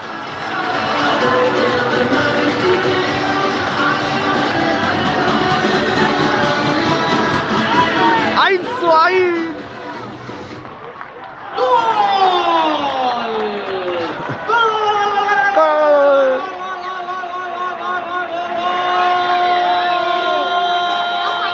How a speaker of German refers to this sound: So hört sich ein Tor in Alcorcón an. Juan Hernández! Gol de Alcorcón! Vamos, equipo!